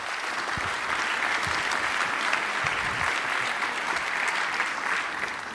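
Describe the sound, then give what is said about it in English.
An audience claps steadily to welcome the speaker of a talk on hacking with the TPM, a dense, even wash of many hands sustained at a constant level for several seconds without any talking. “Give a big applause, please.”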